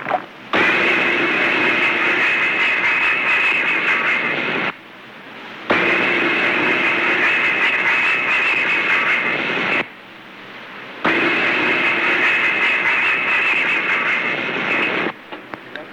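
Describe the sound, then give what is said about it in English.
An imitation of a passing steam locomotive: three long, loud, roaring hisses with a steady whistle-like tone, each lasting about four seconds and separated by brief pauses. No one speaks. “Rather, it is an imitation of a passing steam locomotive.”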